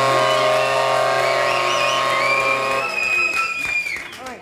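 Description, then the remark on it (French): A loud burst of audience applause and cheering after a sketch about the retirement age being pushed back, mixed with a bright sustained musical sting that gives way to steady crackling clapping in the last seconds. “C'est une belle contrepartie sociale qu'on peut applaudir.”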